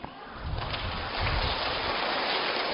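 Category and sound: crowd, audience applause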